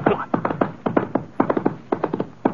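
Horse hooves clop steadily on a hard surface, fairly loud, falling in quick uneven clusters of hollow knocks like an unhurried walk, as a rider sets off on horseback.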